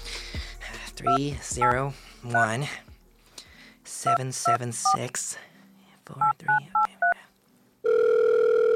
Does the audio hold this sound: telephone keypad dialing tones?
yes